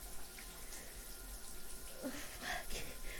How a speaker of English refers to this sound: Oh, the water's gonna get in your eyes, so let me move the shower head.